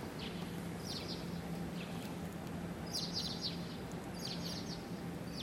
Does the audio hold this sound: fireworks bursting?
no